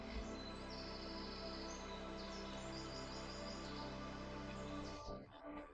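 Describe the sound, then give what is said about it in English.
Soft birdsong chirps over a steady rustle of wind through the leaves of a bamboo forest, a continuous, fairly quiet outdoor wash that holds evenly for about five seconds before thinning out. “The rustling of the wind in the leaves and the field of birds accompany your walk.”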